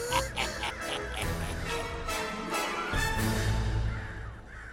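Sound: crows cawing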